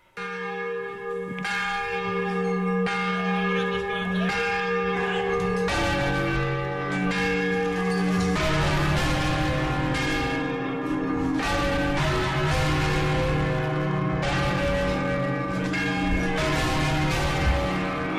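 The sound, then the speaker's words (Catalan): Catalan church bells swing in a full, continuous peal, a typical Catalan swinging peal, several bells ringing together in overlapping, irregular strikes with long ringing tones, loud throughout with no voices. The tower's bells keep their old original mechanisms. “És un toc d'un vol català per excel·lència, un toc català per excel·lència.”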